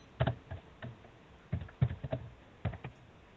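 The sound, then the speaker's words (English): Irregular bursts of key clicks from a computer keyboard, fairly quiet, tapping in short clusters with brief pauses between them, no voices present. “Because I can hear you typing and then I hear the chat.”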